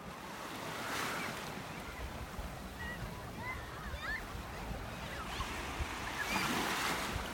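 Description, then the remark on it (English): Steady Red Sea surf washes in on the beach at Dahab, a small beach town in Sinai, Egypt, with broad swells of noise near the start and end, while gusty wind rumbles across the microphone and faint bird-like chirps flicker through the middle. “So Dahab is this small beach town in Sinai on the Red Sea”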